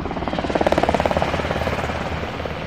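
A medevac helicopter approaches a patrol base in Afghanistan for two wounded Afghan men, its rotor thumping in a steady, rapid rhythm, loud, with a broad engine roar beneath it and no voices.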